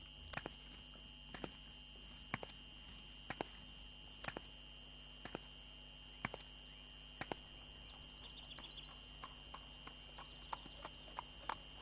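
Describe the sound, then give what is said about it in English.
Horse hooves clip-clop at a slow, even pace, roughly one sharp knock per second, in a horse breeding stable in Varkane village where tourists ride the horses, over a steady high-pitched background hum with faint chirps partway through. “And here I am in the horse breeding stable of Varkane. There are beautiful horses here.”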